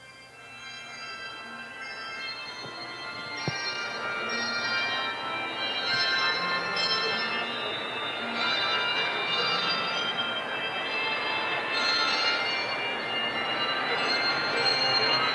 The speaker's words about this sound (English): Would you join me now in expectation as the bell choir continues to play for us, preparing us for what God might have for us today.